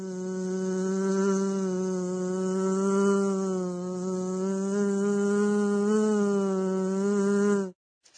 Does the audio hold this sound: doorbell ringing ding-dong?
no